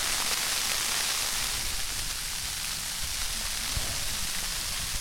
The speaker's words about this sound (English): When that was recorded, I lay wrapped up in my warm sleeping bag as snow pelted the thin sides of my tent. We had entered the mountains of North Carolina earlier that day and were greeted by a snowstorm.